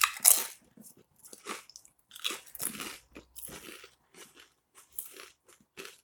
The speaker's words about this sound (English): Yeah, the smell is indeed tomato-y. I'm trying a crisp. Crunchy.